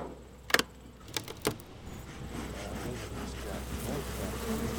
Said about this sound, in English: uses some smoke to calm down the bees. Bees communicate using pheromones. The smoke covers up the pheromones. It's the insect equivalent of trying to yell over loud music.